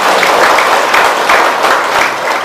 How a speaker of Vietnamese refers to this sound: Cho nên quý vị hãy cho một tràng pháo tay để tán dương mình có được cơ hội chung.